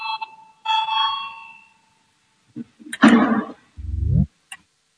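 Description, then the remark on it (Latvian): An electronic parliamentary voting bell rings out before a vote on an amendment: two sustained chiming tones, a brief pause, then a harsher buzzing burst and a short rising tone, with no one speaking. “Lūdzu, zvanu, balsosim par 135. deputāta Valainiņa priekšlikumu”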